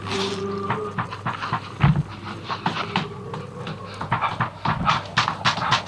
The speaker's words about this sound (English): Those ferrets are about to bust right through that door.